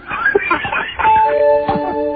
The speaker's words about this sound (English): Out of time. That can't be the buzzer already. It is. Buzz it is.